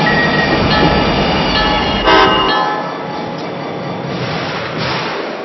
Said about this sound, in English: Attention, ladies and gentlemen. Hybrid train number 5710 with service to Newark Penn Station is now arriving on track 2.